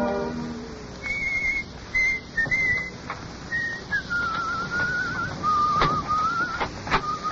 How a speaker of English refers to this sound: He doesn't whistle that well.